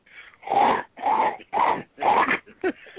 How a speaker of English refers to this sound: Yeah. I'm not sure what the hell that was. Was that demon breathing? No, that's my fat ass thighs rubbing together.